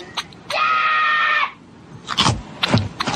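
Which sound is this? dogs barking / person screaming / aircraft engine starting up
person screaming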